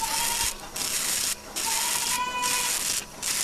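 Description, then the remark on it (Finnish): A milking machine runs with a steady loud hiss broken by regular short pauses as its teat cups are attached, a pulsing mechanical rhythm with a faint whistling tone over it; nobody speaks. “No niin, sitten otetaan noin ihan samanlaiset on noin, mitkä ne nyt on tissin paikat, niin kuin lehmienkin lypsykone, lypsimet.”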